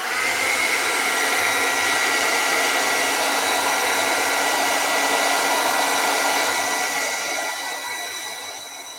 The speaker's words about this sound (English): Okay, and this then gets me to introduce one of my favorite watercolor tools, which is the hairdryer because I'm too impatient to wait. Okay, let's try this.